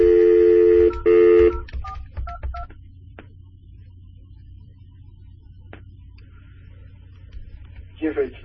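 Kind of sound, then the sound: signal or alarm, phone number being dialed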